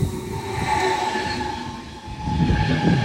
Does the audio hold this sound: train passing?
yes